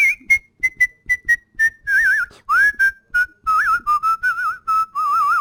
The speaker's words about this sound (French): Peut-être un air de siffler pour terminer. Mais bien sûr, alors on pourrait se quitter sur quoi? Pour souhaiter une bonne année, une sorte de...